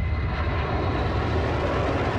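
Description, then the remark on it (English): A deep, continuous rumble of low-flying military planes roars overhead, loud and steady throughout with no voices, the broad engine drone filling the air without pause: big gray SAC planes from Biggs Air Force Base flying low over a house in 1962. “I was playing outside and heard a loud, loud rumble up in the sky.”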